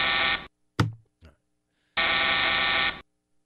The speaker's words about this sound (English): You can shove that buzzer where the sun don't shine. It's Labor Day. How can you buzz me on?